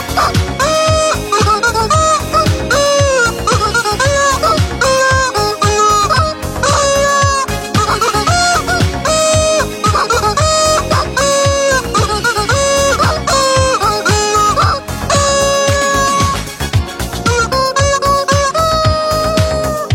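A hen clucks in quick, repeated bursts over loud, busy music with a steady beat, the clucking woven into the song and going on throughout.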